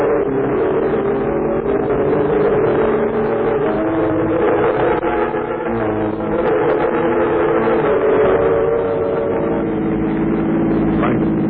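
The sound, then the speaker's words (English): A car engine runs at a steady, loud hum throughout, a continuous low drone with a faint tonal whine and no pauses. “Wait, we get out to the car.”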